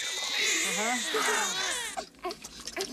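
A newborn baby boy, just born, cries loudly in one long, wavering wail for about two seconds, then trails off into softer, broken whimpers and breathy gasps.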